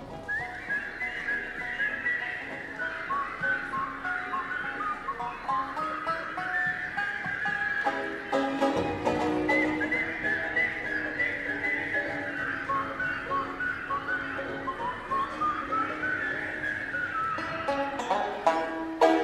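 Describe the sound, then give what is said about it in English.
An audience at a live children's concert at Town Hall in 1962 whistles a tune together, many overlapping whistles rising and falling with the melody for about twenty seconds, fairly loud and steady, with no talking. “Can you whistle?”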